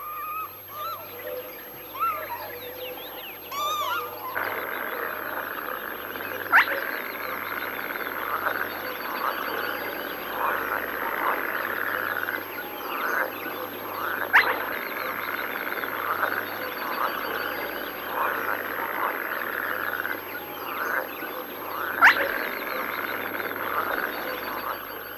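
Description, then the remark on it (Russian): In a marsh, a dense, steady chorus of croaking frogs, cut through by a spotted crake's short, sharp whistle that repeats three times at even intervals of several seconds. “Среди кваканья лягушек отрывистый посвист.”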